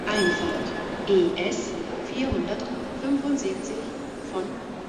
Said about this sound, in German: Schon kommt der Zug mit den blauen Schlafwagen um die Ecke. Der Anblick seltsam bekannt. Die Waggons sind schon ein paar Jahrzehnte alt.